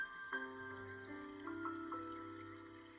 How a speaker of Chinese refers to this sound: 小溪流淌的声音